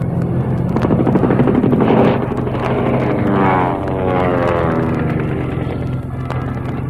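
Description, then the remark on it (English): A loud, droning airplane engine of a plane approaching from behind fills the scene, its pitch rising and shifting as it closes in, with a continuous roar and no voices. “behind us, a plane.”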